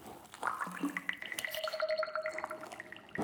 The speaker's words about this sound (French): Oh, ça fait plein de bulles. Regarde cette petite-là. Elle est belle. Et celle-là.